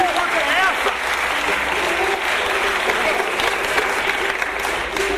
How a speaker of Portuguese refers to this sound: Ô, gente, dá um aplauso pro compositor, gente.